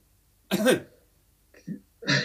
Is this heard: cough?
yes